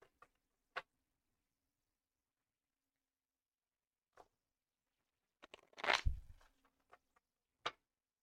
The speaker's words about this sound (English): So, I knocked my cards. I'm going to shuffle them a few times. And I'm just shuffling them.